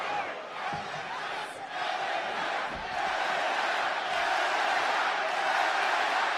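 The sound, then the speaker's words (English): A large arena crowd at a wrestling match boos Hit Row for beating up LA Knight in the corner, a loud, sustained roar of many voices holding steady for the whole stretch with no one speaking over it. “They are booing Hit Row for beating up LA Knight in the corner.”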